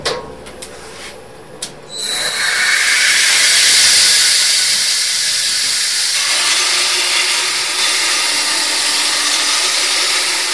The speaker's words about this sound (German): Ja, so sind wir jetzt im Bandschleiferraum drin. Da habe ich ein separates Räumchen, wo ich einen Bandschleifer drin habe, weil das gibt einfach am meisten Mohrerei. Darum habe ich in einem separaten Raum. Und dann holen wir den Bandschleifer an.